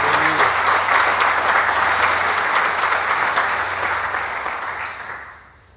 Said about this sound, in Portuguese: Mais uma vez, vamos aplaudir o que o Senhor já fez? Obrigado, Senhor, pelo que o Senhor já fez.